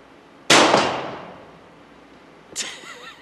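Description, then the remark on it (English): A Winchester lever-action rifle loaded with 5 cartridges fires one sharp, loud crack that trails off slowly, then about two seconds later a brief metallic clack with a faint ringing as the lever is worked, ejecting the cartridge and cocking the hammer. “Now, to work the action each time, you just work the lever like that.”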